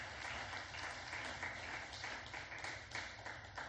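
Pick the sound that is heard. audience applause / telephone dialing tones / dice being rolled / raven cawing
audience applause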